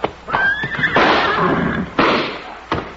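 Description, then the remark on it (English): A couple of sharp slaps on a horse's flanks ring out, then the horse lets out a loud whinny amid noisy commotion, followed by a few more thumping hits. “Ma, Cherokee, slap his horse's flanks, quick!”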